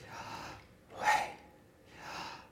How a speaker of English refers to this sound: I should have practiced that a little bit before, but it is. It's in the rhythm of our breathing.